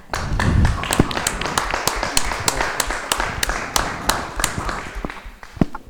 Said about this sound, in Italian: Applaudiamo al nuovo gruppo.